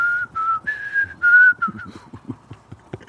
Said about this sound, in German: Pfeifen ist auch nicht der beste Instrument. Ja, es geht manchmal und manchmal geht es nicht.